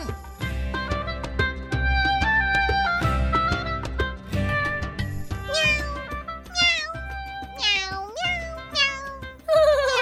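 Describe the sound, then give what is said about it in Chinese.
Several short, high-pitched kitten meows rise and fall over a steady instrumental music bed, arriving in quick succession during the second half, fairly loud, from a kitten in a children's story on the radio station IC 之音竹科广播 FM 97.25. “好像是小猫咪和大鸟妈妈的声音耶。”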